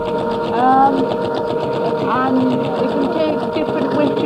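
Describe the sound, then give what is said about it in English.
A Teal Beta X3 braille embosser hammers out dot rows on computer paper in a fast, steady, loud mechanical chatter, with faint voices murmuring in the background. It prints a line at a time: each push punches dots 1 and 4 across the whole line, then the middle two, then the bottom two. “In other words, each push, it's doing dots 1 and 4, but the whole line of them. Then it's doing the middle two, then the bottom two.”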